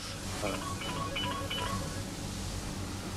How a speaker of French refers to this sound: Ah, il faut que je réponde, je suis désolé. Et oui, le téléphone sonne et il faut répondre puisqu'il s'agit d'une livraison de nourriture qui attend derrière les cuisines.